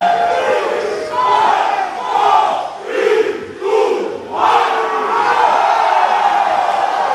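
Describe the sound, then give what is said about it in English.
A large crowd of die-hard soccer fans chants loudly in unison at a rain-soaked Pro League match in Melbourne, Solomon Kings versus Papua New Guinea's Hikari, voices rising and falling in rhythmic swells before settling into a steady, continuous roar. “The Melbourne drizzle could not keep the die-hard soccer fans away.”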